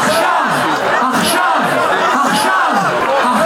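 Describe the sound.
A large crowd in Tel Aviv, Israel, rallying in support of the Israelis and others held hostage by Hamas, chants loudly in unison in Hebrew "Achshav, Achshav" (now, now), many voices rising and falling in a steady repeated rhythm, with constant crowd noise throughout.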